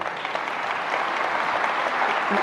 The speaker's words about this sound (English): I thank you. I commend you. I should give a big round of applause. Oh, no.